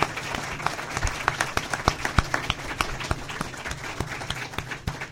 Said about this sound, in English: Round of applause for these candidates. Thank you very much. Appreciate it.